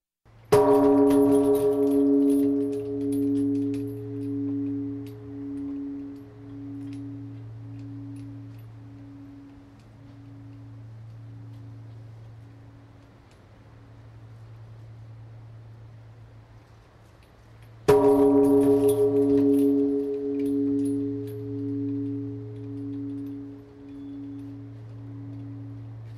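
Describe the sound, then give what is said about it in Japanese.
The large Buddhist temple bell of Kaiseiji temple in Rokuyaji-machi, right by the city hall, is rung as a New Year's Eve bell and struck twice, about eighteen seconds apart. Each deep, booming strike sustains in a long, wavering hum that slowly fades, with no voices. “最初にお聞きいただくのは市役所のすぐそば六谷寺町の海政寺の鐘の音とこのお寺の第三子家のお話です。”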